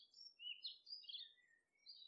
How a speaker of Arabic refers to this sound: مثل كل يوم بتستيقظ على أصوات العصافير بعد ما فشلت كل محاولات منبه هاتفك في إيقاظك.